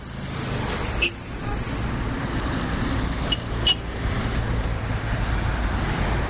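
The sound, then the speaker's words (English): Steady roar of road traffic as cars speed past the ruins of the main telephone switching center in the Adamiya section of Baghdad, Iraq: a continuous low rumble of passing cars with a few brief sharper clicks and knocks on top. “Cars speed by what remains of the main telephone switching center in the Adamiya section of Baghdad.”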